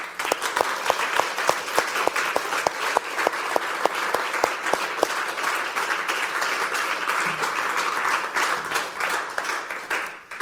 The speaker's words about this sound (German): den ihn doch mit einem ganz warmen Applaus begrüßen.